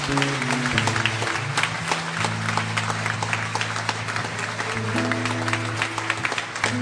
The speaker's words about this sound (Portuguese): Uma salva de palmas, Jesus.